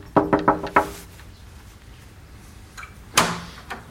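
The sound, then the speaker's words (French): Four quick, evenly spaced knocks on a wooden door at the end of a small paved alley in Lesconil, southern Finistère, France, fairly loud, followed by a quiet pause and then a single sharper clunk, like a latch or the door moving. “Il y a une petite allée pavée et une porte en bois. Forcément, on l'a prévenu, donc on va aller frapper et puis aller le rencontrer et discuter de son métier.”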